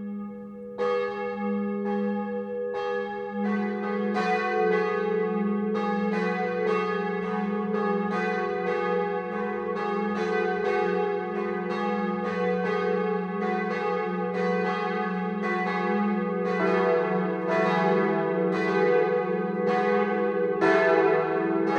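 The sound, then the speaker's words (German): Several church bells ring together for the 12 o'clock noon ringing in Westheim, Swabia, bordering Augsburg, in a steady, overlapping peal, loud and sustained, with rich ringing overtones and no voices throughout. “Das Mittagsläuten kommt heute aus dem schwäbischen Westheim.”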